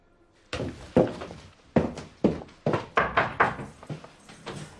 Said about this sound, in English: Having knocked on the door, she's allowed out.